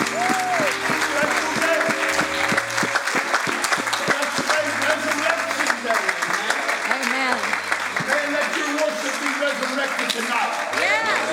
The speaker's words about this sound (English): praise the Lord, everybody. Let's praise give the Lord a big hand clap of praise.